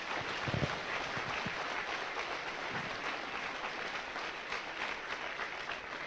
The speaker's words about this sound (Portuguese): Démosle fuerte aplauso para el Señor Jesús. Aplaudamos al Señor.